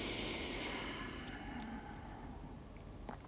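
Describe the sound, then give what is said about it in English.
A deep, airy breath drawn in and let out, a broad rushing hiss that starts strong and gradually softens over a few seconds, with no talking. “I'm going to close my eyes. Take a deep breath.”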